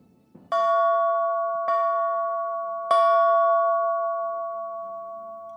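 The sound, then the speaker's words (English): The bell of a British warship, HMS Wasp, not a church bell, is struck three times at an unhurried, slightly uneven pace, each clang ringing out loud and clear and left to hum and fade slowly. “That's not the sound of a church bell, but the bell from a British warship, HMS Wasp.”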